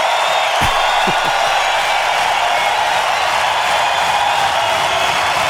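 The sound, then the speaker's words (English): A large crowd cheers in a steady, dense roar that holds at the same loudness from start to finish, with no one speaking over it. “crowd go on for a long time there.”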